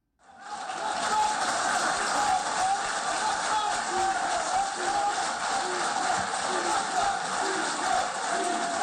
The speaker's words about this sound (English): The crowd clapped and chanted, "Libya, Libya, Libya," as the deputy speakers of the country's two rival parliaments signed the National Unity Accord, then embraced and raised their arms in the air together in a gesture of solidarity.